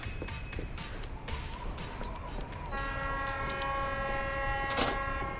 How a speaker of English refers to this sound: The next train due at platform 1 is at 3:30 to London.